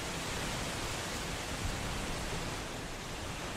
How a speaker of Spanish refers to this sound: Claro, la naturaleza, el viento, ¿no? Las hojas de los árboles empujadas por el viento es lo único que se escucha.